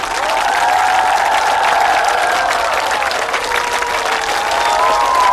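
Loud, sustained applause from a sizable audience fills the whole stretch, a dense steady patter of clapping with faint cheering tones mixed in and no talking over it.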